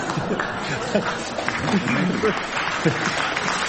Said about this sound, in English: Not well, I think that must be the first time anybody's got a clap for being born.